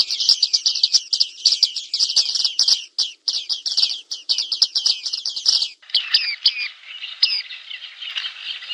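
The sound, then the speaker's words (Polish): Bearded reedlings give rapid, overlapping monotonous 'pik' calls, a dense metallic chatter for several seconds that thins to a few scattered notes. Fairly loud, with no talking. “Każdy ma swoje skojarzenia, ale rzeczywiście dosyć trudno jest oddać samą barwę, no bo tutaj nie jest to żaden śpiew, nie jest to jakaś tam skomplikowana fraza, tylko jest to jedno monotonne pik, pik, pik, pik.”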